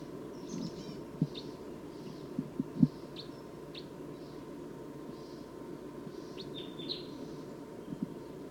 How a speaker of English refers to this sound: Wild bird's approaching a little bit closer now. Stop. So recording wild bird's calling loud now, as well as the decoys.